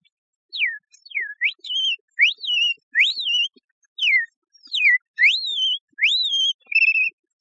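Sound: mockingbird song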